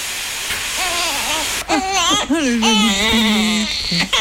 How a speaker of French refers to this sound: Et voilà, après, c'est le moment des cris du bébé.